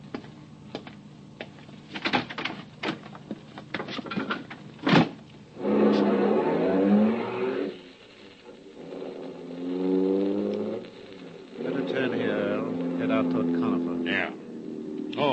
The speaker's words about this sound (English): And then a car drove up. 2 men in the front seat, 3 in the back.